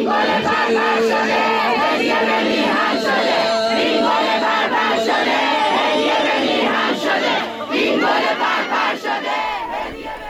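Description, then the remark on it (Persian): A large crowd at the fortieth-day memorial ceremony for Mohammad Hossein Torkaman in Babol chants and shouts together, loud and sustained, many overlapping voices rising and falling in waves for the whole stretch. “و یک صدا هم از جمعیتی که اونجا هستن داری.”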